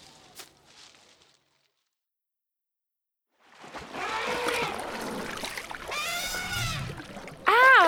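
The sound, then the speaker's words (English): An elephant drinks and sloshes water, with a few seconds of near-silence before the heavy watery churning starts, ending in a sudden loud, wavering high-pitched call. “An elephant lives in a group. Be careful! It drinks water.”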